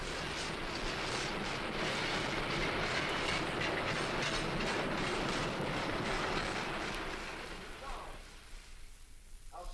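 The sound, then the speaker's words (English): A passenger train bound for Parris Island, South Carolina, rumbles steadily along the rails at night with a loud, dense, continuous roar and faint clatter, before the noise eases off near the end. “We are on a train bound for Parris Island, South Carolina.”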